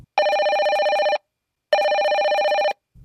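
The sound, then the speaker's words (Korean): A telephone rings twice, each ring a sustained buzzy trill lasting about a second, separated by a short silence. The ringing is clear and fairly loud with no voices over it. “아직도 전화 기다리고 있어.”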